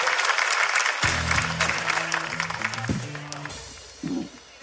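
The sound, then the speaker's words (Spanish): Dense audience applause for two people, marking 250,000 followers, with steady, rapid clapping joined by a few sustained musical tones underneath that shift pitch midway. The clapping stays loud throughout and fades slightly near the end. “Un fuerte aplauso para ellos dos.”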